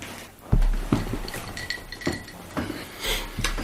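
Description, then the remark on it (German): A few sharp clinks of glass ring out at uneven intervals, mixed with soft thuds and handling noise as a drink is poured and set down in a studio, with no one speaking. “Ich muss mal gerade was trinken.”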